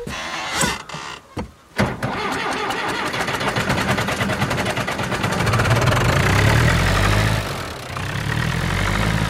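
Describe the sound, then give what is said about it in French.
A few clunks and knocks, then a farm tractor engine starts and idles with a steady diesel rumble that swells louder toward the end before settling again; the tractor is being fetched to hitch a rear fork for feeding cows. “Je vais chercher un tracteur pour atteler la fourche arrière, pour pouvoir donner à ma vache.”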